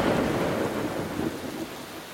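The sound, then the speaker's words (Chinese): A deep, sustained rumble of thunder from a lightning strike on a mountain rolls over steady heavy rain, loud, slowly easing toward the end with no voices present. “一道闪电霎时就击中了她，将她整个人劈下了山谷。”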